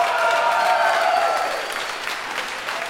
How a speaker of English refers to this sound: Applaud if you've seen Equilibrium.